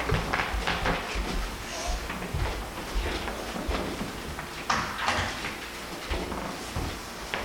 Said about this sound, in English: I'm going to close this door, I think.